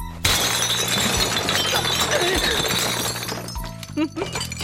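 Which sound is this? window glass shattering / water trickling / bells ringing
window glass shattering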